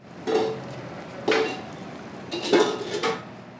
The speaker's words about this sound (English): Pots and pans clank as volunteers dish up homemade entrees and sides at the Chamai potluck.